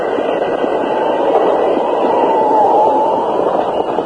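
A train rumbles along steadily for a few seconds, a dense continuous roar of engine and rails that stays loud and even throughout, with no voices.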